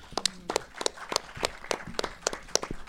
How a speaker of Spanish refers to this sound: Un aplauso, por favor.